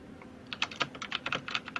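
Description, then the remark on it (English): Quick typing of a message into a chat on a computer keyboard: a brisk run of about a dozen light, clicky keystrokes in an irregular rhythm, with no voices. “Will you type in the chat really quick that it'll be back in a second?”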